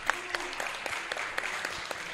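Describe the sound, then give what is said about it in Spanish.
An audience applauds steadily, a dense wash of many hands clapping at once, with a few sharper individual claps standing out above the crowd, for a contestant who correctly named the series Excel Saga in a song-guessing trivia contest. “Un aplauso para Osano.”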